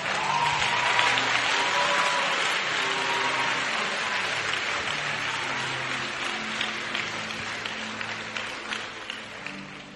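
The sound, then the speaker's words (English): Sustained applause for Jesus from a large group, dense and steady for the full ten seconds, with faint musical tones and scattered voices underneath. “Ah, let's clap for Jesus.”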